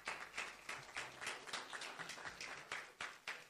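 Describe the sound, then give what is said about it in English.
An audience at a church service gives a praise clap: many hands clapping together in a steady, fairly quick rhythm of bright, crisp slaps, loud and sustained, with no one talking. “I think that deserves a praise clap.”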